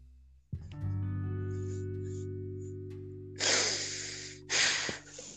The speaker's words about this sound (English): Why are you breathing?